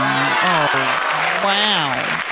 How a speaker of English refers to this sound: Oh, wow. Wait, can you believe that applause? Thank you. I'm a hoonered by it.